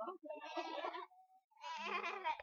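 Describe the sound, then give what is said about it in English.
Two loud sheep bleats, each a quavering, wavering cry lasting under a second, separated by a short pause, as sheep are herded back into a sheepfold. “Come on, sheep. Come on, let's go.”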